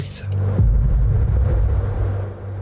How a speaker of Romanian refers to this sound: Se aude explozia. O secundă.